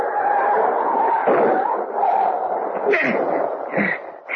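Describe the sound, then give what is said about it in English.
A dog yelps and whimpers in pain after being hit by a car on a road in the rain, a loud, continuous stream of high cries with brief sharper yips toward the end. “I didn't see him till I hit him. What was it? The dog.”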